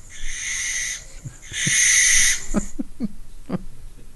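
An owl calls out: two drawn-out, harsh high cries, then a quick run of short, low hoots, clear, with no one talking.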